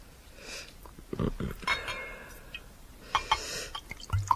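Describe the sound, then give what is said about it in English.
Wine trickles into glasses, with short splashing pours and a few light glassy clinks, fairly quiet against a soft background and no talking. “Would you like to pour the wine?”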